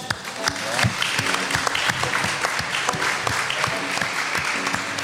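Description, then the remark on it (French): An audience at a live radio debate in Normandy claps steadily throughout, a dense patter of many hands at moderate loudness, with faint murmuring voices underneath. “Oui, on peut pas, applaudir le WIP.”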